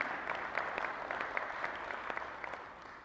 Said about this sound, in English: So thank you very much. A round of applause for yourselves tonight, please, for all the work that you do.